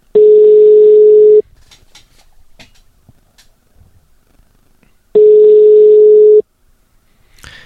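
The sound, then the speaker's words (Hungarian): Two long, steady ringback tones, each about a second and a half, separated by a few seconds of near silence, as a host phones a reserve prize winner and no one picks up. “vedd már föl, kérlek a telefont.”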